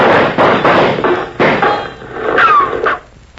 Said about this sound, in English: Whoa! You hear him, that Red Rider? Sound a little like shots to me.